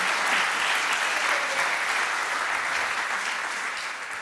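Steady audience applause for a woman who has agreed to sit at the front, a dense wash of many hands clapping at an even loudness that fades slightly toward the end, with no voices heard over it.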